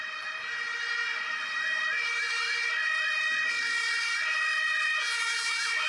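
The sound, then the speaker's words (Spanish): An ambulance siren on the street blares steadily and loud, alternating a high-low two-tone call with quick warbling sweeps, growing slightly louder as the ambulance approaches. No voices are heard. “Es el sonido de una ambulancia. Se va acercando.”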